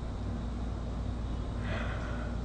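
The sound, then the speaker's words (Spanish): A brief, breathy yawn-like exhalation rises midway and fades over a steady low background hum, with no talking. “Ya, Vania, basta, ahora voy a bostezar”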